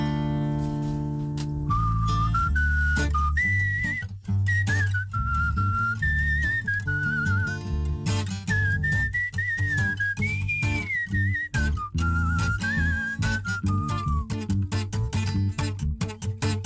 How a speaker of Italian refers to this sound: E io devo cominciare a fischiare, no? Aspetta.